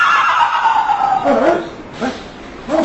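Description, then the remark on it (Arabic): A horse, called the sea horse, lets out a loud whinny that falls in pitch, followed by a few short, sharp neighing bursts. “الحصان الحصان حصان البحر، هيا يا إخوان هيا يا إخوان هيا بالسيوف والرماح قبل أن يحلو القمر.”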